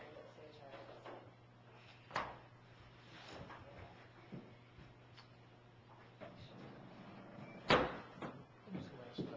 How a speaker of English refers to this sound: All right. We'll open up the door, see if anybody's out in the lobby.